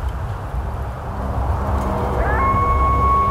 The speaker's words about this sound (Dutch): Een verloren coyote in de verte.